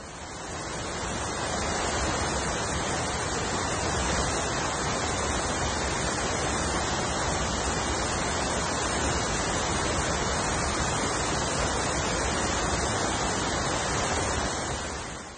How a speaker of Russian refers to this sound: Вот как, например, звучит водопад.